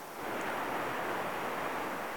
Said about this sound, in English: And all you can hear are the sound of the waves. And the sound of a voice. And you just relax.